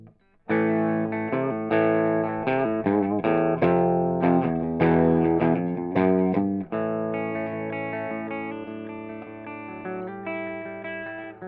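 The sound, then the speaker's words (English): A Les Paul electric guitar on the bridge pickup, all guitar controls at full, played through an amp switched to boost with amp reverb around 8 o'clock: a loud, slightly gritty tone with quick picked phrases and chords, ending on a long sustained ringing chord with light reverb. No voices. “Switching to boost.”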